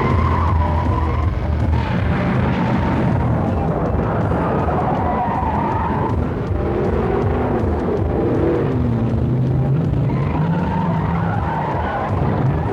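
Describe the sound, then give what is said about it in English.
A loud, continuous car chase with tires skidding and squealing repeatedly over roaring engines, the screeches rising and falling in long sweeps, from a highlight of the 90-minute TV special premiere of Grand Slam. “The 90-minute special premiere of Grand Slam has Rodriguez and Schneider getting into fistfights and gun battles and car chases, all to track down a drug dealer and return a baby to a beautiful widow.”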